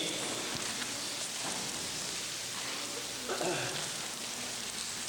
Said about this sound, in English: Suddenly a draft in here with all those rustling pages.